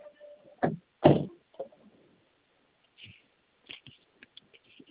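A door swings shut with two heavy thuds in quick succession, followed by quieter scattered clicks and rustling in otherwise still surroundings.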